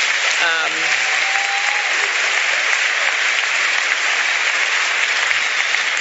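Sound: audience applause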